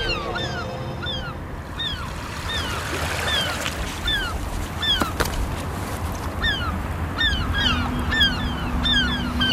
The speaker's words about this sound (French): Avec les mouettes qui tournent dans le ciel, là. On est à Cherbourg, avec en face de nous les restes des fortifications.